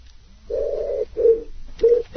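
Collared doves cooing in low, hollow tones: a long drawn-out coo followed by shorter ones in a steady repeating rhythm, moderately loud with no voices.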